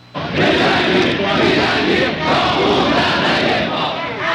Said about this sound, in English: November 1979. Crowds in the streets chanting their message of hate to America.